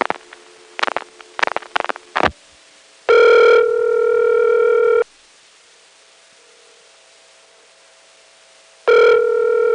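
A burst of clicks and short tones gives way to a steady, buzzy ringback tone about two seconds long, then a pause of silence before the ring starts again, on a local telephone call to a regular 752 or 8 customer line. Loud, with no talking.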